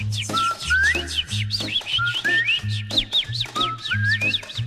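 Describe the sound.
Several people whistle chirpy, swooping bird-like calls, overlapping in quick rising and falling phrases, over a steady rhythmic musical backing with low repeating bass notes.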